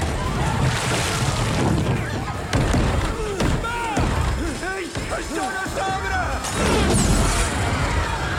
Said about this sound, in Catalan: Còctel explota davant d'ells.